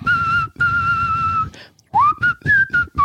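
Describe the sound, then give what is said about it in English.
A person whistles a short song melody, two long sustained notes followed by a quicker run of rising and falling notes, with no talking. “Now, if you whistle those songs, it makes your husband crazy.”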